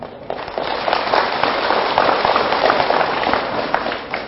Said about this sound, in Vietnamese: Nếu các con thấy rằng là việc học theo thói quen nói chân thật, sống chân thật, ứng xử chân thật là tốt cho mình và mình có thể làm được, thì hãy dâng cao tràng pháo tay thật lớn.